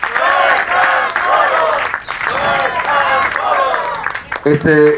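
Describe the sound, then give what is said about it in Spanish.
A forum audience claps steadily for several seconds in solidarity with two parents of the 43, while many voices shout and cheer over it, loud, with one voice rising clearly near the end. “Al ratito les daremos la palabra también, pero les pedimos un aplauso por su solidaridad también con esta lucha.”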